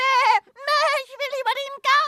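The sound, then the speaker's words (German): A voice imitates a goat's bleat in a quavering, wavering tone, delivered in four short bursts with brief pauses between, fairly loud. “Mäh, ich will laufen und hüpfen.”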